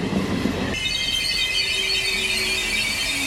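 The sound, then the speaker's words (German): A regional train (Regionalbahn) slows to a stop at the station of the small town of Rolandseck, between Bonn and Koblenz in Rhineland-Palatinate, Germany. A rumble gives way to a sustained high metallic squeal of braking wheels, steady and loud, with no voices. “Die Regionalbahn, die hält hier immerhin zweimal die Stunde im Bahnhof des kleinen Ortes Rolandseck.”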